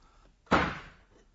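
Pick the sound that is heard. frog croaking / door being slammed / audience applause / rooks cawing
door being slammed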